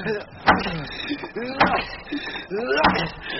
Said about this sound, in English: Oh, yes, sir. Here's the door. Civilization at last. Well, knock it. Knock it, man. Knock it. Right.